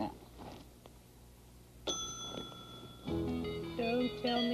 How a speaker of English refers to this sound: Don't tell me I can tell by the sound of that bell that a horse was calling for me. Am I right?